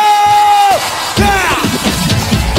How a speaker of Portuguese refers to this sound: Dá um grito!